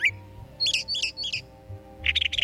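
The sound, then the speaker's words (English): A blue jay gives a series of harsh, raspy calls: three quick squawks, a pause, then a louder burst of rapid, scratchy notes. It's clear, with a low background hum. “Some robins, couple of sparrows, one of those chatty blue jays. That's a culprit, Frankie.”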